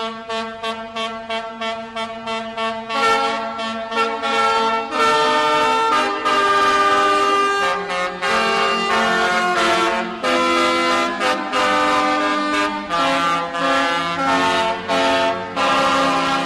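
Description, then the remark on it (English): Loud, blaring diesel truck air horns, 13 horns on each truck, play a tune at a performance held away from a stadium game. The tune starts with short rhythmic honks and moves into longer sustained chords that shift pitch. The sound is forceful, with no talking. “But the show did go on away from the game, and our microphones were there to capture the sound of the Motor City played on truck horns.”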